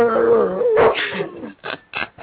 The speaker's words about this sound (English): Why every time you talk, the goddamn dog want to fucking bark up and shit? You want to get on the show, dog?